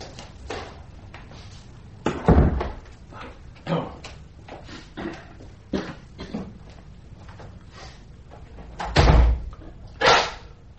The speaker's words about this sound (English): The court officers will close the doors and stand immediately outside them, allowing no one entry, and I will declare this tribunal to be sitting.